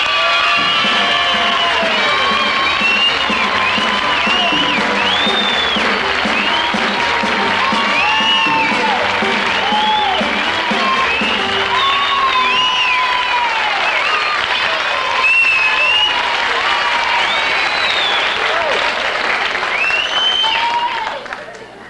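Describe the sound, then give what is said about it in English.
A large audience applauds and cheers steadily for the Smothers Brothers as they are introduced, a dense wash of clapping with excited shouts and whoops rising above it, sustained at full loudness throughout. “Thank you very warmly for the warm applause.”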